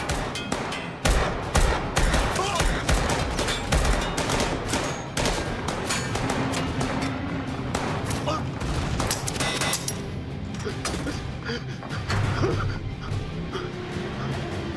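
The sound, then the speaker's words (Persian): A sustained volley of gunfire, with rapid, dense shots cracking out one after another for the whole stretch. It is loud and chaotic, with some faint background shouting mixed in. “دست نگه داری، شلیک نکنین. هیچ کس شلیک نکنه.”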